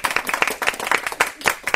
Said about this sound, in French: Citation, parce que vous avez réussi quand même à sauver l'Europe en grande partie, puisque vous avez eu 15 corrections temporelles sur 16. Donc vous pouvez vous applaudir, parce que ce n'est pas évident.